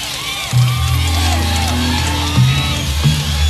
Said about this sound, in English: Now, you notice it's spreading back. The crowd is getting a little more enthusiastic each time. Go.